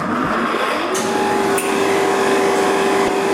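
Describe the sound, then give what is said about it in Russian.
A motor is switched on and starts up with a steady whirring hum that climbs in pitch within the first second, then settles into a constant, loud drone over a broad hiss, with a faint click midway. “Сейчас вот мы включаем мотор.”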